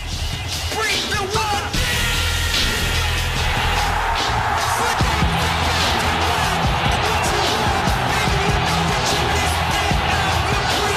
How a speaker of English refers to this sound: Like when this flips to, when it flips to, like, when, like, Jericho comes up on the Titantron. I still get goosebumps hearing, like, that crowd reaction. Let's cut to just this pop.